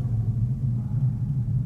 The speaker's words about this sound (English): Jake LaMotta is about to get knocked out by Sugar Ray Robinson. And there's just a shot of Sugar Ray standing there, and it gets very quiet. There's sort of a rumbling, hissing sound.